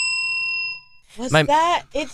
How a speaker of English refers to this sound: It's the tabletop bell. No, stop. The bell that randomly goes off.